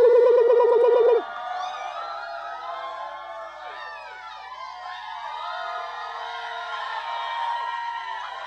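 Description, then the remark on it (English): A live audience erupts in loud, sustained cheering when asked to raise their hands and get loud, packed with high whoops and shrill yells that rise and fall, opening with a brief warbling cry before the roar holds steady for several seconds. “Everybody raise your hands. Just get wild for 1 second. Get loud.”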